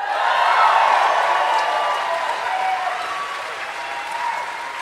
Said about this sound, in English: That's a great note to get you to. That's how you make them clap.